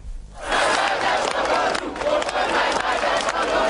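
A large crowd of nearly 1,500 protesters on Széchenyi Square in Szeged shouts and chants, demanding the resignation of Ferenc Gyurcsány, in a loud, sustained roar that swells after a brief quiet start, voices blending into a dense wall of noise.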